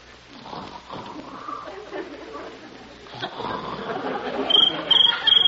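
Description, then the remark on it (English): A cricket chirps three times in quick, evenly spaced bursts near the end, high and shrill, over a low, murmuring background, at night in the countryside. “That's just a little cricket.”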